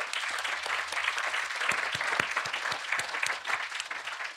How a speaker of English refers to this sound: A round of applause for that gentleman.